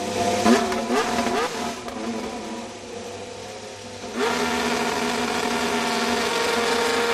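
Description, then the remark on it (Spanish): The engine of the new AMR 25 Formula 1 car, Alonso's car, fires up and revs at the factory in Silverstone, the pitch sweeping up and down in bursts before settling into a steady, loud roar, with no voices. “sabemos la fecha en la que veremos el AMR 25, el coche de Alonso, que es el 23 de febrero, pero ya tienes el sonido del motor, ¿no? Del nuevo Así coche. Lo han arrancado hoy en la fábrica de Silverstone.”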